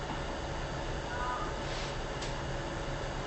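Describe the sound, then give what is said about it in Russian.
A truck arriving at a construction site gives a steady, broad mechanical engine rumble and hiss that holds at an even, moderate level throughout, with only slight swells and no distinct knocks or beeps. “Сейчас грузовик на стройке приехал.”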